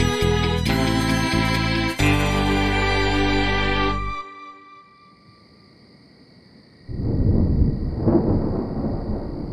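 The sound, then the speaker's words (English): A loud, sustained musical chord fades out, and after a brief quiet a deep, rolling rumble of thunder, with no rain, swells up and carries on to the end. “There's the sound of thunder, but there's no rain.”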